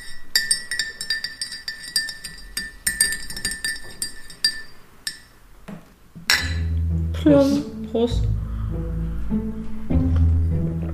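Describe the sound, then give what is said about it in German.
A spoon clinks rapidly and repeatedly against a cup as freshly made coffee is stirred, bright ringing taps for several seconds, then a louder, fuller stretch of sound with voices takes over as cups clink in a toast. “Ich habe Kaffee gemacht. Warte, Stößchen. Ich muss jetzt mal umrühren.”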